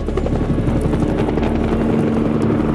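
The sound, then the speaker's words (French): A helicopter roars overhead as it makes a pass, its rotor thumping in a rapid, steady rhythm beneath a constant engine drone, loud and sustained throughout with no voices. “L'hélico fait un passage, mais à la surprise générale, il revient.”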